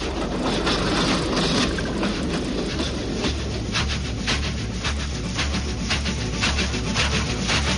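A train heading toward Slatina rumbles steadily along the rails, with a deep continuous drone and faint rhythmic clatter from the wheels, loud throughout, heard from inside the train.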